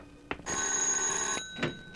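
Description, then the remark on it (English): A bright, metallic bell rings steadily for about a second with a high, sustained tone, framed by a short clang just before and another after. No one speaks. “Then I heard the bell.”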